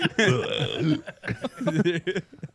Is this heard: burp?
yes